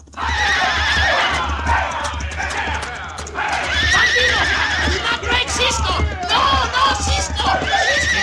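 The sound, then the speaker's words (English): Loud, shrill horse whinnies rise and fall repeatedly over a steady drumming of galloping hooves, the neighs insistent throughout, as Louis Merce puts spurs to his horse after roping Cisco, during a late-night bandit raid on a construction camp. “So much so that when the bandits rode into the construction camp late at night to drive off the company's mules, Louis Merce roped Cisco from behind and then put spurs to his horse, intending to drag Cisco to his death.”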